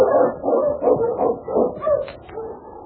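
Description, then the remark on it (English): A team of husky sled dogs barks and yips excitedly as they are urged to run on the trail to Dawson, their overlapping calls coming in quick, steady bursts with no voices over them. “All right, let's get moving, boy. On King, run, Husky!”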